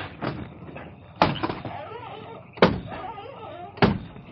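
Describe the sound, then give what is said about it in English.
A window shutter is swung shut with four heavy, irregularly spaced wooden bangs, the gaps between them filled with softer scraping and rattling. “Close the window on the shutter so nobody will be suspicious.”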